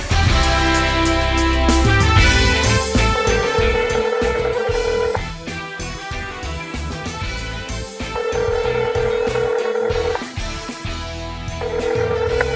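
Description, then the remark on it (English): A telephone call being placed to Rob Riggle: a string of dialing tones, then a repeating ring tone that sounds in evenly spaced bursts, loud, with no voices. “And so let's get Rob on the phone.”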